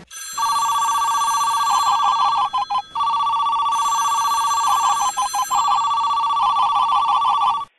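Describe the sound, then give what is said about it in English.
A telephone rings loudly and steadily, its bright warbling bell repeating in quick bursts with brief gaps, clear with no one talking; it opens a listener's winning phone call in a Heroes contest. “Okay, and let's hear that winning phone call right now.”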